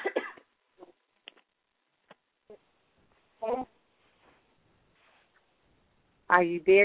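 A caller from California coughs on a phone line into a broadcast: several short, sharp coughs and throat-clearing bursts through a thin phone-line sound, scattered irregularly with quiet gaps between them, ending in a louder cluster.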